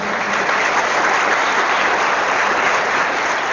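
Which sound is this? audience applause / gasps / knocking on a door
audience applause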